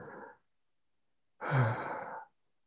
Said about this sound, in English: Starting to take full deep breaths, feeling your belly expand with each in-breath, in and out through the mouth. But keeping your body relaxed, no tension in your shoulders, making it a full and deep but enjoyable breath.